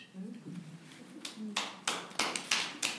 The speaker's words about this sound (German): Du kannst es hören, das Klatschen ist nicht mehr so kraftvoll wie bei einem jüngeren Publikum. Die Zuhörenden hier sind weit über 80, 90, ja fast 100 Jahre alt.